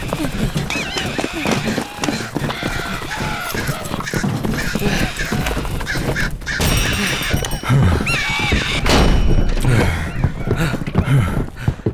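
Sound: birds cawing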